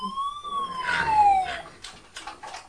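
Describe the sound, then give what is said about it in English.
A fire engine siren wails in one long, clear tone that rises slightly and then slides downward, followed by a few short, rough bursts of noise. “A fire engine. Oh no, they don't like the fire engines.”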